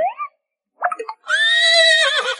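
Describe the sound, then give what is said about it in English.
A horse whinnies loudly as the horses enter their new house, a long wavering neigh following a couple of short snorting calls, with no voices present. “The horses are entering their new house.”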